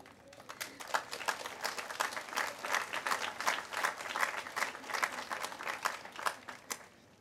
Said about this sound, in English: Please join us in giving a warm round of applause to all of our volunteers.